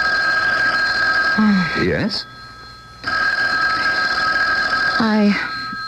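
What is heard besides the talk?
telephone bell ringing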